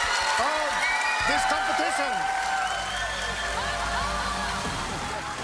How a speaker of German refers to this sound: Im Fernsehen gut zu sehen, im Radio kaum zu hören, zu groß, zu laut ist der Jubel.